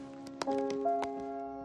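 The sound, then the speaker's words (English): Several soft footsteps tap in an uneven rhythm as a woman carrying elegant luggage and a floral embroidered bag climbs the steps to the front door of a terraced house. A sustained musical tone hums quietly underneath, and the whole scene sounds fairly faint. “Picking up her elegant luggage and her floral embroidered bag, she mounts the steps to the front door.”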